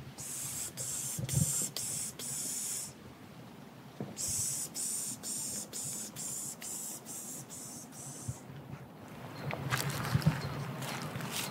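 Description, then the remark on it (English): Someone makes a series of breathy, high-pitched hissing bursts, pishing to draw birds out, with rhythmic spurts and short pauses between them, followed by softer rustling and faint background noise. “No, that's called pishing.”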